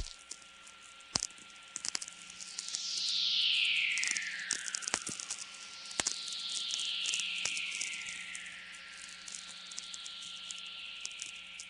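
Soft, hissy natural radio whistlers, fairly rare, sweep downward in pitch, two or three long descending tones over a steady crackling static background, punctuated by occasional sharp clicks. Recorded at 5:24 am on 22 June 1998 at Belly River Campground, Waterton Park, southern Alberta, Canada.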